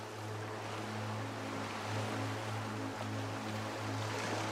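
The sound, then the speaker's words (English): Ocean waves wash in a steady, continuous rush of surf with no clear breaks between swells, over a low, even hum. Moderately quiet and unchanging throughout, with no voices. “Imagine the waves continuously going back and forth, swirling around your feet.”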